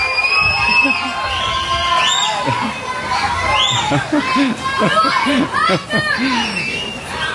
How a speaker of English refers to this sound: And thank you, the cheering section down here. This is wonderful.